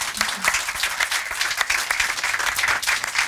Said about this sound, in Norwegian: Så en stor applaus!